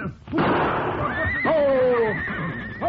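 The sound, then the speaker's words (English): A horse gives a loud whinny, its wavering high-pitched call rising and falling over about two seconds with a burst of noisy breath at the start. “Stop it! Crazy horse!”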